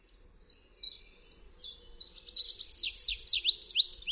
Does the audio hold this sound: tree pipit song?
yes